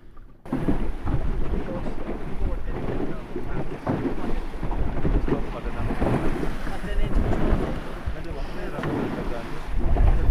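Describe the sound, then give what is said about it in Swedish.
A sailboat with a single large sail glides out into open water toward Sottunga as steady wind of about 4-5 metres per second buffets the microphone and sail, with continuous low rumbling and rushing, fairly loud throughout. “Och vinden bara tar i det enda stora seglet där. Så glider vi ut.”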